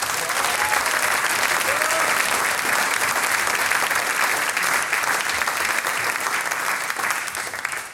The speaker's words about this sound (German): Und ich denke, die vier Partien haben sie zu Beginn gleich einmal einen riesengroßen Applaus verdient.